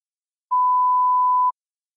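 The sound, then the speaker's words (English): A telephone in New York gives one steady electronic ring at dawn, a pure, even tone lasting about a second at moderate volume, with silence before and after and no voices. “The light was just peeking through the window when the phone rang.”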